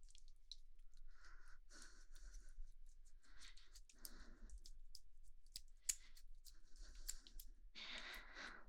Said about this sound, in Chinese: 呼吸声好重，别紧张，没关系